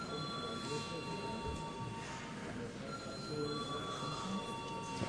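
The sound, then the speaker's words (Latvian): The voting bell of the Latvian Saeima rings, calling deputies to vote on sending a bill to committee, a steady, loud metallic jangle with shrill high overtones that holds without pause for the full five seconds. “Lūdzu zvanu.”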